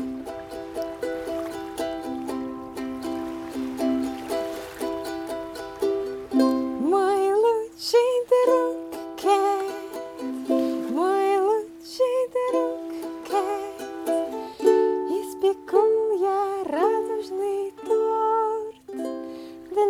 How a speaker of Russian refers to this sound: Не теряя ни минуты, Док достал гитару и начал петь заклинание.